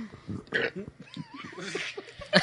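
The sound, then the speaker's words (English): A gurgly, fizzy-sounding burp rumbles out in a few rough bursts over a couple of seconds, moderately loud, with faint voices around it. “Love the random burps. That one sounded carbonated.”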